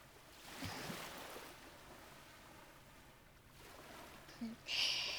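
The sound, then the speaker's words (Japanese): Soft ocean waves wash in with a broad, hissing surge that swells and fades, while a low steady rumble sits underneath; a brief brighter rustle closes the moment. “ほら顔は海の方かな。”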